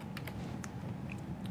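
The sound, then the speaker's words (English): A few soft, irregular clicks of keys being typed on a computer keyboard, sounding over a steady low hum with no one talking. “I need to know how to use this keyboard.”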